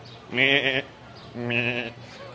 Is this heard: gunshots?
no